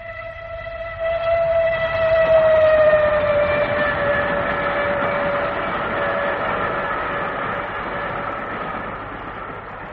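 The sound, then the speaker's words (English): A train rumbles past on the railway line beneath a window, its steady horn-like tone sounding over a heavy rolling clatter that swells after the first second and stays loud, drifting slightly lower in pitch as it goes. “Bad enough to have the trains banging under one's window all night long.”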